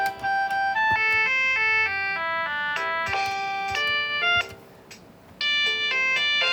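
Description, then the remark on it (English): An electronic keyboard plays its built-in demo song, selected with the demo A button, a bright, beepy synth melody of quick stepping notes with steady rhythm, briefly thinning out before the tune picks back up. “So it sounds like demo A and demo B basically are the same exact buttons. They are just on different sides of the keyboard, so I don't know why they did it like that.”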